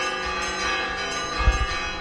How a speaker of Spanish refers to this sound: Pues sí, suenan las campanas, porque al menos campanas sí que siguen teniendo las iglesias de Aliste, seguramente de otros muchos pueblos de España, y hay que decir que son buenas campanas, que suenan bien